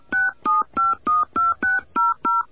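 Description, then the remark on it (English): A quick run of eight touch-tone phone beeps, evenly spaced and fairly loud, each a short dual-pitched tone as a different phone number is dialed in answer to an automated prompt to enter a 10-digit phone number, with no talking. “Okay, let's enter a different phone number.”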